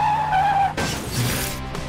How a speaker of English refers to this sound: He crashed it into one of the lampposts.